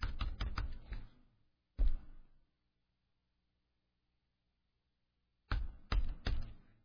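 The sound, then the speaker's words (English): Typing on a computer keyboard: quick bursts of crisp key clicks, a short flurry, then a few seconds of silence before another brisk run of keystrokes, as someone types into Bible study software. No one speaks. “Well, I can type up there, but Accordance will not allow me to do anything to enter a reference, which live by technology, die by technology.”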